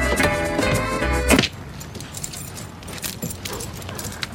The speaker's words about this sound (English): And closes the blue car door.